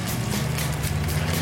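A car engine hums steadily as a car comes along a narrow, tree-shaded road on a big climb, a low droning rumble with a broad wash of road noise that holds at a constant level throughout, with no one speaking.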